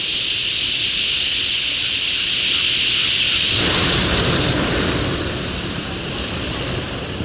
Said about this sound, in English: It does sound like a whale. It sounds like the ocean. It's bird wings. It's huge numbers of bird wings. Thousands and thousands of bird wings.